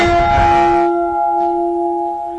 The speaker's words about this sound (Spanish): Esta es de Santander, y claro, nos suena más a campana normal para lo que es nosotros, ¿no?